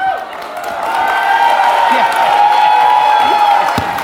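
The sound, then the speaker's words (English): A big crowd applauding and cheering, steady and loud for several seconds, with whoops and shouts rising above a dense wash of clapping. “And it'll just go to the massive applause.”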